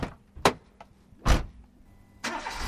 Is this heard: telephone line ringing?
no